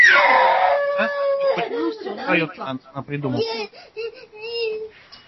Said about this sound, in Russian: у вас ребенок громко плачет.